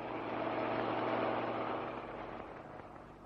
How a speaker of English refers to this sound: Listen. It's another truck coming. It's probably the rest of the kids.